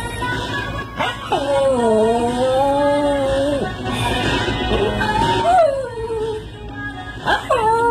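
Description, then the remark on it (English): A dog lets out long, wavering howls, three drawn-out cries with short pauses between, close and fairly loud over a steady murmur of voices playing in the background. “He sings along.”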